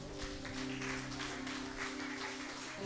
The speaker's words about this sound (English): Give the Lord a mighty hand of praise again. Clap for the children.